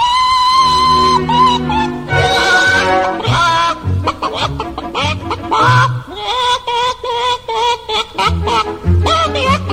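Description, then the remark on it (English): A hen clucking a song in a barnyard: rhythmic, pitched clucks rise and fall along a melody, loud, over a steady low musical backing for the whole stretch. “One of the best singers of the whole barnyard, Mrs. Hen herself. Sing something for us.”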